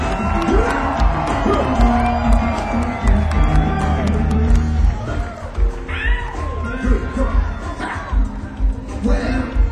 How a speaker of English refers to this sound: Give me a round of applause. Our guitar player.